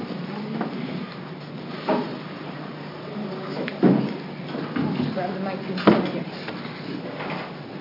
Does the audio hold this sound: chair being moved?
yes